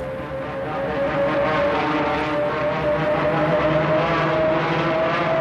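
Heavy B-17 bomber engines drone loudly and steadily throughout, in a bomber formation under attack by German planes during aerial combat; a thick continuous roar with a faint humming pitch running through it and no voices.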